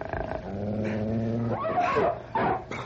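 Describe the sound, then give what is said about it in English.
Wolves growl low and steadily, a long rumbling snarl that breaks into sharper yelps and snaps near the end, with no one speaking. “Come on, wolves, I'll fight you with my bare hands if I have to.”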